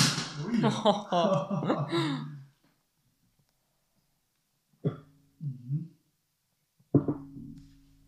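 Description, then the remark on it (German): A sparkling wine bottle pops open with a short, sharp bang, followed by a second quick pop and brief vocal reactions, after a stretch of voiced sounds and a quiet pause. “Das wird jetzt einen Schuss machen.”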